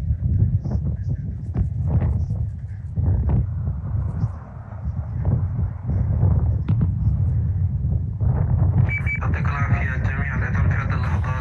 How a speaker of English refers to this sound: Associated Press cameras captured the muffled sound of an explosion as missiles struck buildings there. Give a listen.